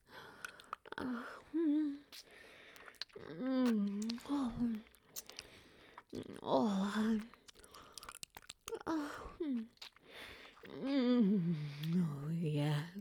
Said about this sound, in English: Getting closer as I take your clit between my lips and suck again.